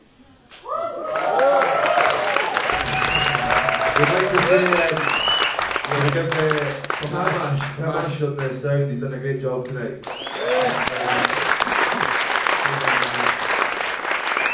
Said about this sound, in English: Listen, thanks very much. You never know. If you clap loud enough, they may let us come back on.